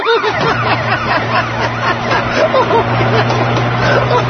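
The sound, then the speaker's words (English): A steady, droning vehicle engine hums during a car chase underneath a busy wash of overlapping voices and chatter, with the motor noise holding constant and fairly loud throughout. “Look at your old car chase.”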